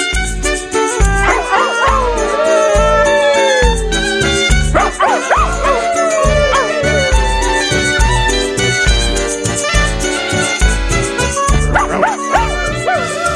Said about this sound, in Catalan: Avui us porto la Llum. Il·luminats. Una gossa de Tura de 6 anys